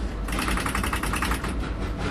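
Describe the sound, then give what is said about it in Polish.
A rapid, rhythmic series of mechanical clacks from electric train contactors switching to close the circuit, steady over a continuous low rumble of the running train as it coasts without power while changing substations. “Przesterowanie się styczników. Była wzmianka styczników, i które zamykają obwód.”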